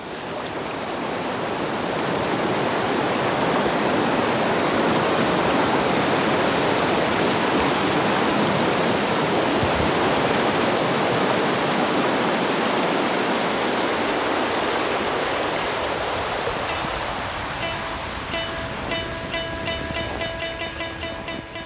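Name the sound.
roaring waterfall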